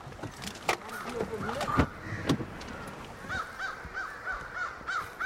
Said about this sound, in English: This is prime time. We're at about 6 o'clock, where we'd certainly expect to see crows trying to roost here for the night.